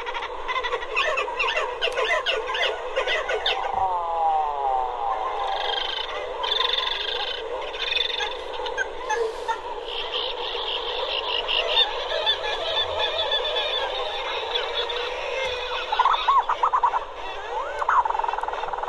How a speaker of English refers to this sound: Are great sounds of birds that have been at sea for most of the year and then come and cram themselves onto these cliff-like rocks in the ocean to breed, some of them standing shoulder to shoulder, and they are loud and vociferous and social